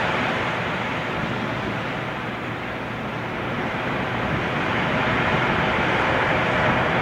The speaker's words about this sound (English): This is what it's like when the Lord fills. Bring the sound up. Watch these waves.